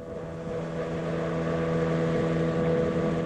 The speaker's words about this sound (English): Behind him, almost lost in the smoke, a boat made its way down the Podkamennaya Tunguska River.